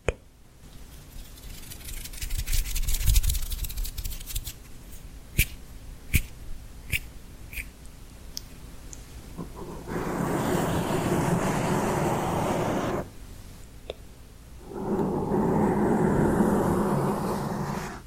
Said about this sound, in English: It's just her face, two microphones so that she can go back and forth. She plays with her hands and paintbrushes in front of them. Let's listen.